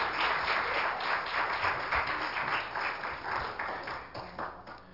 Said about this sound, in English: You may be seated. Give Jesus one more hand clap of praise if you would.